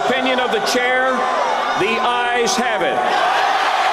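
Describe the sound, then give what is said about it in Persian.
A crowd of protesters at a political convention, opponents of Donald Trump's candidacy, shouts loudly and continuously in protest during the speeches, many raised voices overlapping in a strained clamor, with a few sharper, higher cries breaking through the din. “با این حال در طول روز و شب و در جریان سخنرانی‌ها بعضی از مخالفان همچنان با فریادهای اعتراض‌آمیز به مخالفت خود ادامه دادند.”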